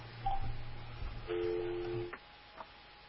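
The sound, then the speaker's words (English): Telephone keypad tones: a short beep, then a longer steady two-pitch tone lasting under a second, followed by a faint blip, over a low background hum with no talking. “Well, I was going to make a call to find out.”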